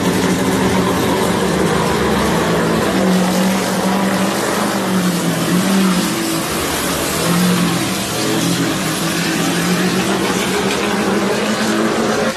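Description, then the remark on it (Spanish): A NASCAR Chevrolet race car engine, in Jimmy Johnson's car driven by Fernando Alonso in Bahrain, roars loudly and continuously for the whole stretch, its deep growl rising and dipping in pitch as the throttle changes, with no voices over it. “Después de recibir el homenaje en Abu Dhabi, el primer lunes fuera de la Fórmula 1 del campeón español, ha empezado en Bahrein conduciendo un Chevrolet.”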